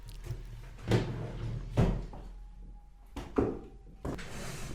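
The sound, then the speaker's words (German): Someone rummages through a drawer behind them to fetch a gift, with several sharp wooden knocks and clatters spaced irregularly, plus scraping and shuffling of objects between them; no one speaks. “ich muss es noch vorgrübeln aus der Schublade hinter mir.”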